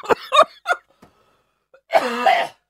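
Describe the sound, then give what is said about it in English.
Three quick, sharp coughs, then a short pause and a longer, rough, throaty burst. No talking. “Wow, you got a burp and a cough on this episode.”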